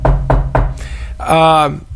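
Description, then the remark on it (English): Three quick knocks on wood in an even rhythm, followed by a brief voiced sound from someone. “I got to knock on wood here.”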